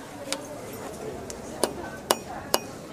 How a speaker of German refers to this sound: Ja. Und jetzt legt Michael los mit dem Hammer auf mit dem Gummihammer.